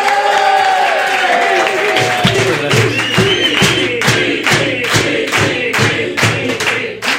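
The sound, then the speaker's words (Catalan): A studio audience welcoming Miqui Núñez breaks into loud applause mixed with cheering, and after a couple of seconds the clapping falls into a steady, rhythmic unison beat that continues to the end. “Mira, aquí ens limitarem a rebre amb un fort aplaudiment a Miqui Núñez!”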